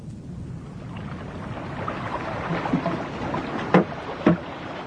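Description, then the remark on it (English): A boat moves steadily through water, with a continuous low wash and rumble, then two sharp knocks or splashes close together near the end. No one speaks. “Anyway, there's obviously no point in staying here. Let's get back to the boat.”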